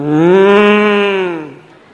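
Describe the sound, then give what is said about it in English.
A single long, loud cow moo, holding a steady low harmonic tone for about a second and a half before fading out, with no one speaking. “And that cow would moo.”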